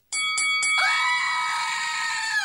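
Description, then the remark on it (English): A screaming goat toy, held up and used as a bell to signal a rundown, goes off: three quick clipped bleats, then one long, loud, shrill scream that wavers and holds for a couple of seconds, with no talking. “I have my little goat here. Can you hold that up one more time?”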